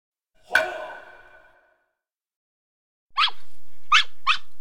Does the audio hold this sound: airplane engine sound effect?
no